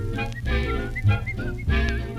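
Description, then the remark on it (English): A bright, melodic whistle carries a tune over a full band accompaniment, the thin wavering notes rising and falling in short phrases at moderate loudness with no voices. “Whistle loud and long.”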